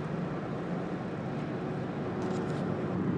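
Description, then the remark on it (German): A steady, loud road roar from inside a small car driving behind trucks, with constant low rumble and tire hiss running unbroken throughout, no voices present. “Ach ja, ich tucker hier gerade so schön LKW hinterher.”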